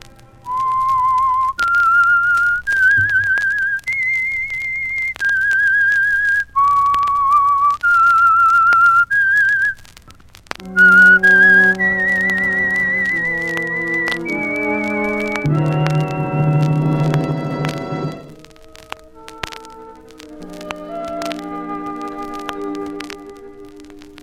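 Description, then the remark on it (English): The whistled theme of The Whistler, opening its story Murder in Haste: a lone clear, high melody stepping up and down in held notes, followed by a full orchestral passage with sustained chords and strings that carries the tune forward. “Now, here is the Whistler.”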